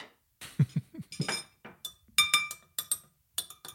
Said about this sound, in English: What is that? Is that you dinging your glass?